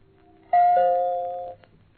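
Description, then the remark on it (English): A single bright gong stroke used as a radio time signal marking 7 o'clock rings out clearly on its own, its tone holding and slowly fading for about a second before cutting off. “At the next stroke of the gong, Springbok time will be 7 o'clock.”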